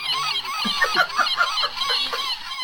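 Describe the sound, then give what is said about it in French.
A laughing seagull jingle sound effect: a loud series of rapid, harsh squawking cries tumbling one after another, with no voices over it. “d'un coup il y avait une mouette qui riait.”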